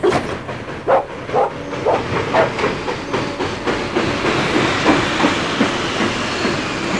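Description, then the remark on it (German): A delayed train rolls slowly into a station, its wheels giving off irregular clanks and knocks over a steady mechanical rumble, with a faint high squeal and a few dog-like yelps in the background. “Da hinten kommt der Zug. Du, da kommt ja ganz schön lahm angezuckelt.”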